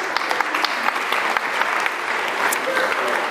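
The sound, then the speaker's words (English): A crowd claps steadily in a round of applause, dense overlapping hand claps at a fairly loud, even level for a few seconds, with no clear voices over it. “Round of applause.”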